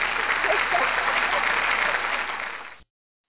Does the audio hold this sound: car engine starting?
no